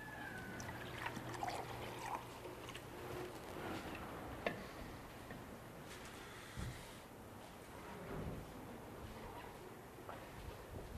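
Water trickles and splashes steadily into a cup for several seconds as a speaker pours a cup of water for themselves, fairly quiet, with a few small clicks and clinks scattered through the pour and no one speaking.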